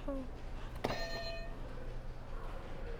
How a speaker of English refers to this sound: Did some fireworks for you.